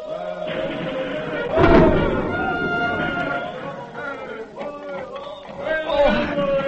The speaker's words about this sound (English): Thus followed the famous Battle of Monmouth. It is in the thick of the battle, and the day is hot and sultry. One of the American gunners named Hayes is at his post firing the cannon.